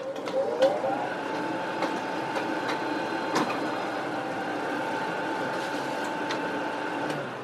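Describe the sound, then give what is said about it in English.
An office copy machine runs steadily with a whirring mechanical drone and faint tonal whine, broken by periodic clicks and clunks of moving parts, with no talking. “I put copy machine.”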